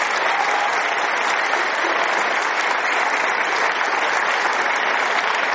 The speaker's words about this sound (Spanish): ¿Quién se alegró aquí por la canonización de Juan Pablo II? A ver, ¿será que le damos un aplauso a Dios por Juan Pablo II, no?